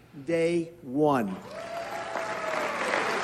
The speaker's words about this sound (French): Vous entendez les applaudissements, hein, timides mais existants.